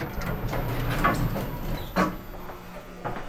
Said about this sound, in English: As the elevator doors opened onto the ground floor of the library, I saw a short hallway in front of me